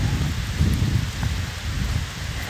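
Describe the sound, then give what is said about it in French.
Steady, dense rainfall in July in a small forest clearing hisses continuously, with a heavy low rumble underneath, fairly loud throughout with no voices. “Ça va la pluie, c'est bon! On est au mois de juillet, s'il vous plaît!”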